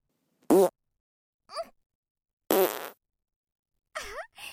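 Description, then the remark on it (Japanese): Four separate farts with silent gaps between them: two loud, sputtering blasts, a shorter softer one, and a final wavering, squeaky toot. Clear, with no talking. “いっぱいおなら出すのってこんなに気持ちいいんだね。”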